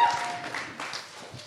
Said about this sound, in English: Let's give him a little cheer, guys.